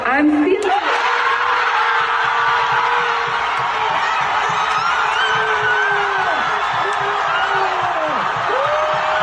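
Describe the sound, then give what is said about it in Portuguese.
A large crowd of Brazilian fans cheers and shouts in celebration as the film Ainda Estou Aqui wins the Oscar for Best International Film, a loud sustained roar of many voices with whoops and excited yelling rising throughout, dense and continuous from start to finish. “A produção Ainda Estou Aqui, dirigida por Walter Salles, venceu o Oscar de Melhor Filme Internacional e a torcida brasileira vibrou nas ruas do país.”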